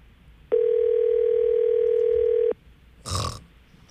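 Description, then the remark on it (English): A single ring of an outgoing phone call's ringback tone, placed from a computer to a cell phone, a steady buzzy two-second hum heard clearly, followed by silence and a brief low muffled burst of noise. “Usually when the cell phone is off, it only rings once or just goes directly to voicemail. So it's on.”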